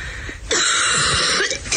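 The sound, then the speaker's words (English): A woman's coughing fit in a video: harsh, raspy coughing bursts in quick succession, loud, with a hoarse throat-clearing quality and brief wheezy gaps, no speech. “She basically had a coughing fit on a video.”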